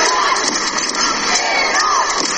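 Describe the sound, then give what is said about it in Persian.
A large crowd of Iranian women shouting and cheering continuously for Iran's national team at a volleyball match against the Czech national team in a small stadium, with high-pitched calls rising over a dense, steady, loud roar. “اما در این استادیوم کوچک تعداد زیادی زنان ایرانی هم حضور پیدا کردن و در حال فریاد زدن و تشویق تیم ملی ایران هستن.”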